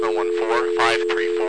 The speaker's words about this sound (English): Pacific Bell, this is a DMS-100, it sounds like, by the way the dial tone comes on.